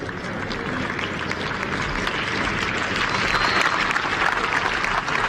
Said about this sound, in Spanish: Y esta es la despedida de David Silva, último partido en la Premier, sin público, pero aplaudido por todos los que estaban allí.